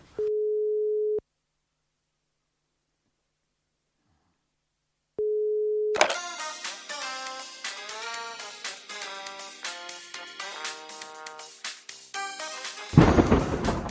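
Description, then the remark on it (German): A steady telephone dial tone hums for about a second as a phone call is about to be placed, falls silent, then sounds again briefly before busy, dense music abruptly takes over and ends in a harsh burst of noise. “Ich habe gleich ein Amt.”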